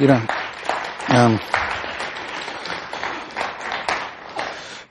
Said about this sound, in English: Sometimes when I hear clapping, and don't take this wrong, but if you hear clapping off in the distance, when there's a firefight off in the distance, sometimes it's kind of close to the sound